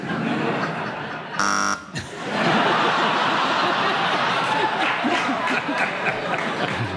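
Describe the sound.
A short, harsh game show buzzer blares for about half a second as a player buzzes in, cutting into steady talk on the subject of a bad hair day, followed by a burst of audience laughter and chatter.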